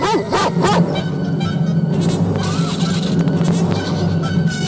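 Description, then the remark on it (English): Several dogs bark and yelp loudly in quick, overlapping bursts at the start, giving way to a dense, chaotic commotion of snarling and barking that keeps going throughout. “These dogs know how to tear the devil's heel.”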